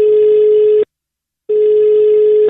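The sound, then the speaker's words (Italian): A telephone call placed on a Radio Toscana show ringing out: two loud, steady electronic ringback tones, each lasting about a second and separated by a short pause, heard clearly with no talking. “e da lì parte la telefonata a bischero di qui, bischero di Masti, e sono io sulla vostra Radio Toscana, solo Toscana, solo it, vai telefono, vai ciccio.”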